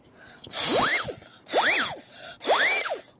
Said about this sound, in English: The ghost alarm set off. I can't turn the ghost alarm off.